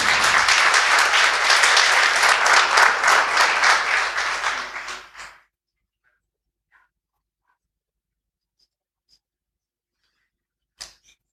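Audience applause, a dense crackling burst of many hands clapping for about five seconds, then fading out into near silence broken by a couple of faint clicks and one short sharp knock.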